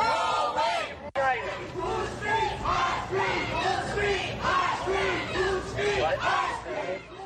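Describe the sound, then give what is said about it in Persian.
A crowd of protesters against Donald Trump chants outside the Republican National Committee building, calling for an end to hatred of Muslims, in rhythmic, overlapping shouts, voices rising and falling in steady waves with a brief sharp break early on, loud and continuous throughout. “در این حال مظاهره کنندگانی که علیه دونالد ترامپ که شعارهای ضد او را حمل می کردند در بیرون از ساختمان کمیته ملی جمهوری خواه خواستار ختم نفرت از مسلمانان شدند.”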